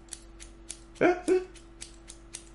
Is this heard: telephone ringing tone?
no